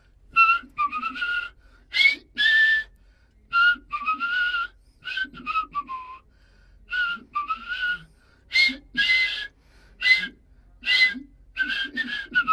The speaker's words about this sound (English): Great, you could really hear the double whistle in that one.